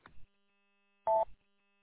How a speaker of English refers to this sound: It seems like it's mostly like Linux-based platform, and I'm not sure why it keeps beeping at me on here either while I'm talking.